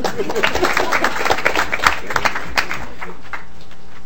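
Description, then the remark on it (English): An audience at a committee hearing applauds a welcomed commissioner, with many overlapping claps forming a steady patter at moderate loudness that gradually thins and fades over the last second. “You want to applaud, that's yeah, fine, too.”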